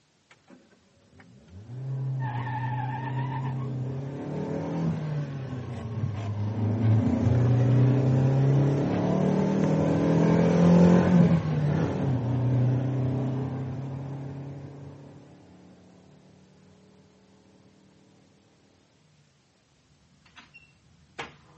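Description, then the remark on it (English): A car engine at the foot of a drive turns over and starts, then revs and pulls away, its rumble swelling before fading away; no one speaks. “I heard a car starting up, and when I came down, the front door was wide open.”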